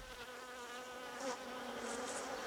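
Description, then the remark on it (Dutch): A steady insect buzz drones continuously, like a bee or fly hovering, with a slight swell in loudness partway through. No voices are heard. “Stien hoorde gezoem.”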